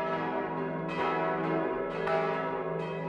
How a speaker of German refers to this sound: Das Mittagsläuten aus Waldershof